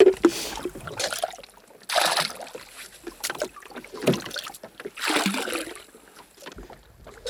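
Water being bailed out of a small rowboat: several splashy scoops and pours at uneven intervals over a steady background of water and light wind, with no talking.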